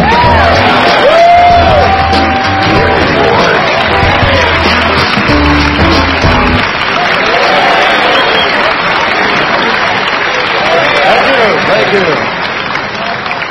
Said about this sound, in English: Ladies and gentlemen, the children's group applauds and honors Mr. Denny Crane.